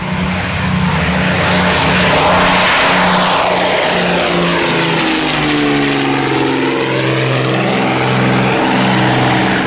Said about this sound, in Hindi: Briefing के बाद 4 मिस्टियर्स विमानों ने 1500 फीट की ऊंचाई पर उड़ते हुए छम की तरफ उड़ान भरी।